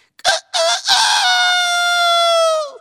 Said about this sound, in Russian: Петушок выглянул в окошко, а она его цап-царап схватила и понесла. Петушок напугался, закричал.